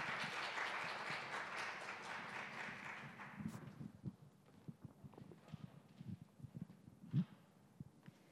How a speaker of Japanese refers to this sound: 彼女です。では拍手で、一応歓迎の拍手でお迎えしましょう。